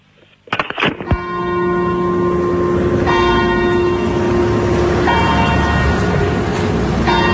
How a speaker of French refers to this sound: Bien ces petites cloches, hein, les cloches de la messe qui appellent à la messe en latin.